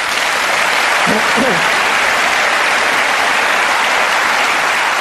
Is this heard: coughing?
no